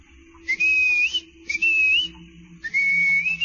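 A series of three loud whistled calls, each a sustained tone that slides upward, separated by short pauses over a faint low hum: a series of commands whistled back to the rear of a caravan on a quiet morning.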